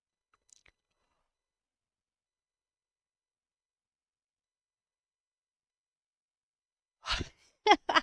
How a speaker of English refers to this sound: You know what that yawn tells me? That I'm moving some big, thick, heavy stuff.